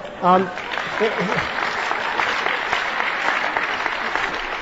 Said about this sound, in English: I don't know if you're applauding the questioner or me, but who cares?